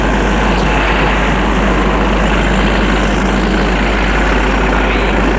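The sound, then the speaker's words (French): Heavy trucks hauling rubble and debris out of Paris rumble steadily, a loud, continuous low engine drone with a broad wash of noise and no pauses, and nobody speaks. “Et tout se vide hors de Paris, car les camions emmènent tous les débris hors de Paris.”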